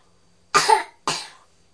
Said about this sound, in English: It's a funny cough.